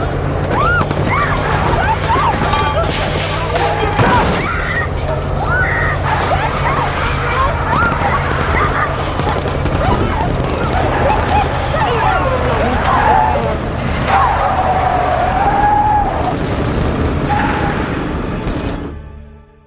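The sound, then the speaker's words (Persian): A pickup truck, driven by Ardalan, speeds past a military barrier amid soldiers firing, with a brief high tire squeal, set against a dense, loud wash of crowd commotion and wailing sirens that runs steadily until fading near the end. “اردلان از حواس پرتی اونا استفاده میکنه، ماشین از مانع رد میکنه.”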